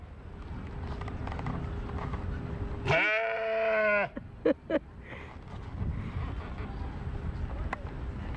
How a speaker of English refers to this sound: Look at this. Look at all these goats.